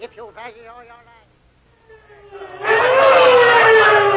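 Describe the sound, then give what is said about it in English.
A voice briefly speaks, then a police squad car siren wails in, growing abruptly loud over a rushing roar as its pitch slowly sinks. “Well, thank goodness that squad car picked us up as soon as it did.”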